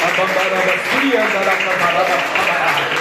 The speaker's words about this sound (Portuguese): E as palmas vão ver o Senhor nessa noite.